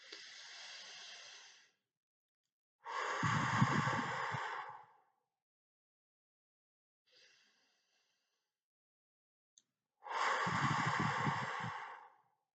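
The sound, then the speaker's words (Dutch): Slow, deep breaths during a guided breathing exercise: a long airy inhale, then a heavier, louder exhale, with a faint breath and pause before another deep exhale. No talking. “Inademen en uitademen. Je neemt rustig de tijd om op je ademhaling te letten. We doen er nog één.”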